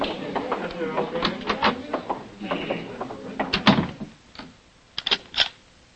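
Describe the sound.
Muffled voices and shuffling movement give way to a brief pause, then a quick cluster of sharp mechanical clicks as a door lock is turned.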